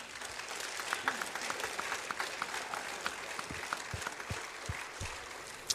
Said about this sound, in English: And anyway, give a clap for all the PKs in the building.